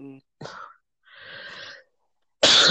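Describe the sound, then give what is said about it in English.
A person coughs from a cough that has just started with a tickle in the throat: a short cough, then a long raspy, wheezy breath in, and finally a loud, harsh cough that ends the sequence. “I got to deal with this cough before it turns into a thing.”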